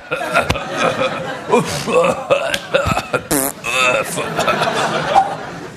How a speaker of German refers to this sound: Ich reagiere immer gleich. Wenn ich in der Dusche bin oder auf dem Klo und ich sehe einen, der wirklich von Mutter Natur sehr gut gesegnet wurde, dann huste ich immer so.